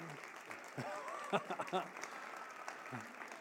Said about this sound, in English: So give yourself, in a minute, an applause while I throw things at you to thank you. So thank you. Applause, please.